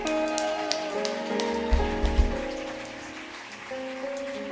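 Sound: audience applause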